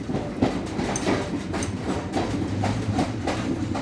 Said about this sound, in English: It's about 6 a.m., and the train is just pulling into Bikaner. The passengers almost sleepwalk down the platform.